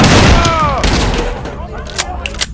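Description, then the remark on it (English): A loud burst of 12-gauge shotgun fire erupts at once in a vast computer room, followed by a few scattered sharp cracks as the noise thins out over a couple of seconds. “The 12 technicians and 6 KGB officers in the vast computer room spun around with a start at the gunfire.”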